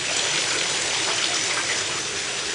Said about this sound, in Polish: Przejdźmy w inne miejsce, bo ta woda jest nie dość, że słona, to jeszcze bardzo głośna.